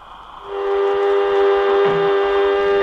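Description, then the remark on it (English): An airlock filling with air: a loud, steady whistling rush swells in after a brief quieter start and holds a sustained high tone with hiss over low rumbling pulses. No one speaks. “Airlock, contact. As she begins to fill up, we should hear it.”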